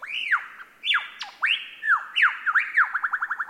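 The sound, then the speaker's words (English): A lyrebird mimics a laughing kookaburra: loud, whooping rising-and-falling calls that break into a quick run of repeated chuckling notes at the end, with no talking. “are best known for their uncanny vocal abilities, which can incorporate spot-on imitations of other bird species, like this laughing kookaburra.”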